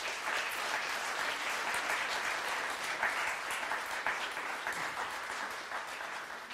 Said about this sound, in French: Voilà, on va arrêter là, on va applaudir ce beau projet.